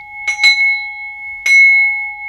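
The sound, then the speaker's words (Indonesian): An electric school bell rings at a school to signal the start of class, in two bursts: a quick double strike followed by a longer ring, bright, with a steady tone sustaining between them. No one speaks. “bel tanda masuk sudah berbunyi.”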